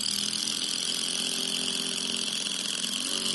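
A cordless power drill drives in a screw, running steadily for a few seconds, a loud buzzing whine with a constant motor pitch, heard on its own with no voices.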